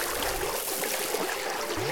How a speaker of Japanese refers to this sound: お、川が流れてる。ここも泳ぐのかな。